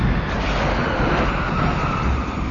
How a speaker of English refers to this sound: Douglas heard his ship's engines fire. Peacekeeper strained, lurched, then crept slowly forward.